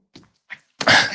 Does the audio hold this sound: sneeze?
yes